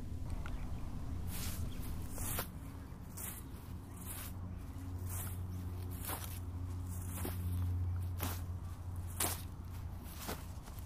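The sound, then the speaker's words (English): Steady footsteps squelch across soft ground wet with moisture from a salt lake, by the water, about eleven even steps with a damp, squishy crunch, over a constant low rumble of wind. “The ground is squishy under my feet now from the moisture of the salt lake.”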